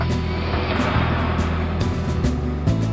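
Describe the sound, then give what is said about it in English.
A truck engine, just switched on, runs with a steady, loud rumble, a continuous low drone with faint rattles and hisses layered on top. No one speaks. “found my truck keys, engine on.”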